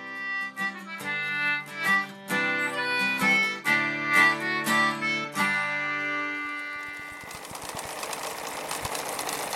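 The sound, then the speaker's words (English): A short bright musical phrase gives way to a sewing machine running, a steady mechanical whir with fast, regular clicking that continues to the end, with no one speaking. “Your one-stop shop for all your sewing machine and vacuum repair needs.”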